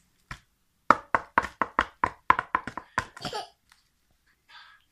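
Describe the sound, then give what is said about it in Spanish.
A single knock on a closed door, then a quick, steady run of about a dozen sharp knocks, fairly loud, trailing off into near silence. “Cuando el pequeño conejo blanco volvió a su casa, se encontró con la puerta cerrada y llamó.”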